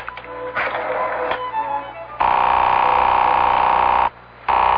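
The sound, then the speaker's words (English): A telephone being dialed, with a quick series of clicks and tones, followed by a loud, steady buzzing ring that pauses briefly and then starts again. No one speaks. “I'm dialing Marguerite, and you'll be able to hear for yourself.”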